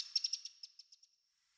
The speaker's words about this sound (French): Donc, c'est un troglodyte mignon. D'accord. Et pourquoi on dit mignon? J'imagine c'est parce qu'il est tout petit et mignon. C'est vraiment une petite boule de plumes.